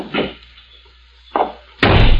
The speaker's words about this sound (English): Then stand aside while I release the brake and close the door.